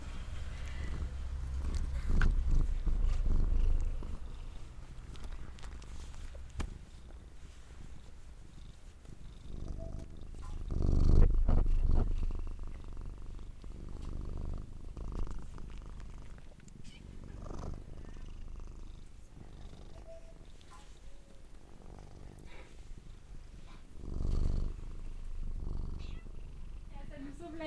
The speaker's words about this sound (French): Ils ronronnent déjà.